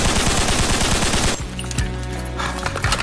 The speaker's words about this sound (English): There's an incident. We hit a shot fired. So far, one ticket shot fired. 4100 South on Laverne. Anonymous caller said people in the street shooting something. It's not firecrackers.